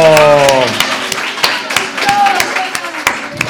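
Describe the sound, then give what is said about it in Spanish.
A short burst of scattered hand claps from a small audience after a correct answer in a sound-guessing quiz, the individual claps sharp and uneven, mixed with excited voices calling out at the start and chatter underneath. “¡Aplauso!”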